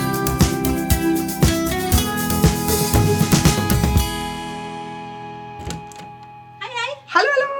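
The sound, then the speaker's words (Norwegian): A small white dog whimpers in a couple of short, high, wavering cries near the end, after several seconds of busy, clattering tonal sound that fades away. “Kommer det en liten hvit hund?”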